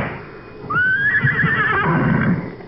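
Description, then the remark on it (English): A horse with a rider on it lets out one loud whinny lasting about a second, rising sharply and then trembling before it breaks off, with low shuffling thuds and rumble underneath. “Get off that horse.”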